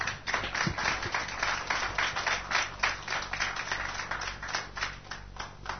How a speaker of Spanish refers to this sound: Si habrá sido fuerte la cosa que yo no pedí que aplaudieran, así lo hicieron.